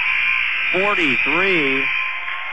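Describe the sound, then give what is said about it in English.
A basketball buzzer blares loud and unbroken for the whole stretch, marking the end of the first half as Beers' last shot comes off the rim with Franklin leading 43-34, while a voice briefly calls out over it in the middle. “Beers at the buzzer, off the rim, and that'll do it.”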